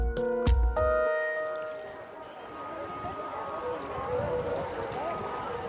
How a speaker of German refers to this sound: Die Regierung hat die Schleusen aufgemacht. Der Ganges fließt schneller als sonst. Grau-bräunliches Wasser in kleinen Wirbeln, das viele Blütenköpfe und noch mehr Plastik vor sich herschubst.